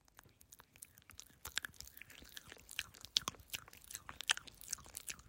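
Someone chews something crunchy, with a quiet, irregular run of crackling bites and crunches and no talking.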